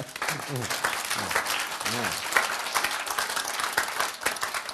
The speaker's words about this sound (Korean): 박수.